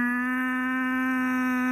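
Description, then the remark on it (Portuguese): A person holds one steady, drawn-out vocal call imitating the call used to call cows. It sounds clear, a single unbroken tone from start to finish with no talking. “Ok, então para chamar vacas é este.”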